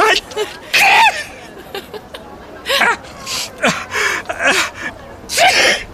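sneeze

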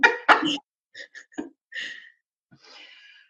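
coughing and throat clearing

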